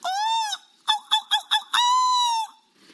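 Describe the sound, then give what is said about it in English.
A BBC reporter mimics a seagull's call: a long nasal squawk, a quick run of four short yelps, then another drawn-out wail, loud with no other sounds. “I can feel that you really want me to do an impression of a seagull, so I'm going to give it a go.”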